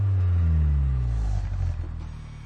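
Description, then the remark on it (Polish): A Honda Type R engine revs in a parking lot by Gdynia Arena in Poland, its deep, loud rumble climbing and then easing back down in a single rev, with no talking. “To może jeszcze ten silnik jeszcze może.”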